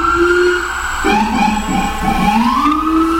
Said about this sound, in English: Hey, man, why is that? What is that, a fucking ambulance or a police? I saw an ambulance and a police.